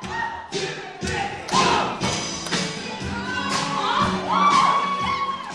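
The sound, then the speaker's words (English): Heavy, rhythmic thumping of feet as a person jumps up and down while dancing to songs, landing about twice a second, loud, with excited voices shouting and singing along to the lyrics in the background. “If I can't think of moves, I just settle for jumping up and down and screaming out the lyrics.”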